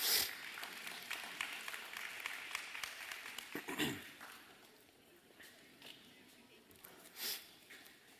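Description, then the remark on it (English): A crowd applauds, a dense crackle of many hands clapping that holds steady for about four seconds, then thins and fades into a quieter murmur with a few scattered sounds. “In Jesus' name, with a big round of applause.”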